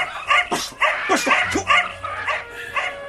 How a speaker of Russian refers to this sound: Сзади нее сидела рыжая собака с острыми ушами. Увидев гостей, она побежала к калитке и залаяла тенором. Все рыжие собаки лают тенором.